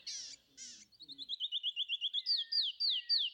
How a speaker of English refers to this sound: Canyon Wren is one of my all-time favorite bird songs because it's just this beautiful set of whistles that are cascading.